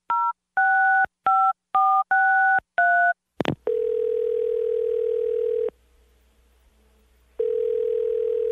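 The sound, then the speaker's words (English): Seven quick telephone keypad tones beep in an uneven rhythm, then a click and a steady phone line tone that drops out briefly and returns. Loud, with no voices. A phone is being dialed to call someone's girlfriend. “Let's call your girlfriend Betty and see. Well, the phone didn't work before.”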